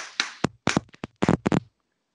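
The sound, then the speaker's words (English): A quick burst of sharp slaps on thighs: about seven or eight fleshy smacks in uneven clusters, fairly loud, with no talking, then a short silence. “Do you want to hear me slap my thighs?”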